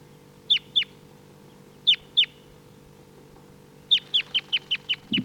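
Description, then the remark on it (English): Wild birds and decoys calling: short, sharp, high-pitched notes, two pairs of chirps, then a quickening run of seven call notes, over a low steady hum with no talking. “So recording, these are the wild birds. Decoys are calling.”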